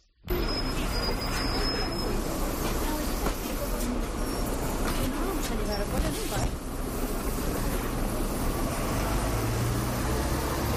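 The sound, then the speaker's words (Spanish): Steady outdoor street ambience at a bus stop, recorded in the morning, with a continuous low engine rumble, passing vehicle noise and scattered indistinct voices of bus users. “Sonido de parada de autobús que ha recogido esta mañana junto con la opinión de los usuarios.”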